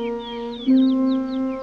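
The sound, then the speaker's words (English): Young birds in a nest chirp for their mother in quick, repeated high peeps, a steady rhythm of short descending calls over a sustained low humming tone. No one speaks. “That's those young birds chirping for their mama that's never coming back.”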